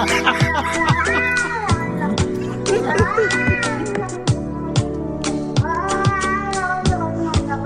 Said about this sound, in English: They're eating the cats. Meow, meow, meow, meow.